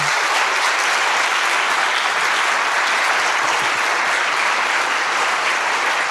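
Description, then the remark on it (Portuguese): An audience applauds steadily for women honoured as the amas (childminders) of Cova da Moura, a loud, dense wash of clapping that holds an even level for several seconds with no voices standing out. “São as amas da Cova da Moura e eu quero-vos pedir um forte aplauso para”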